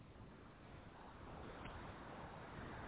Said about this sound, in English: Seems to be windy in Hamburg